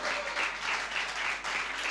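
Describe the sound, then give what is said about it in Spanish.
A crowd applauds, dense steady clapping filling the whole short stretch at a fairly even level, with slight swells in intensity and no voices standing out. “¡Muy aplauso!”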